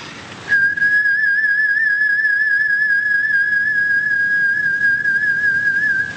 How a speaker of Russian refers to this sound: Вот такой свист. Ну, что это за свист? Это вместе с свистом сразу выходит дыхание.